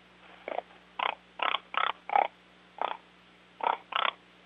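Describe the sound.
A person imitates a feeding hog with about nine short, throaty grunts in an uneven rhythm, some closely paired, over a faint steady hum, with no talking.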